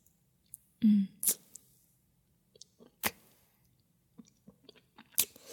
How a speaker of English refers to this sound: Do you like how when I tap on it with my tongue? Like this. It just splashes all my saliva in your pre-cum around.